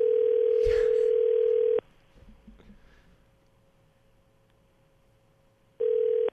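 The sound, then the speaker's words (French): A phone ringback tone on an outgoing call: a steady, loud electronic hum plays for about two seconds, falls silent for four, then starts again, with faint background noise in the gap. “OK, ça sonne.”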